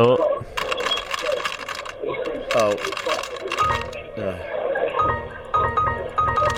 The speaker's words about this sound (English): Keep typing. Sorry. I don't think this is a keyboard.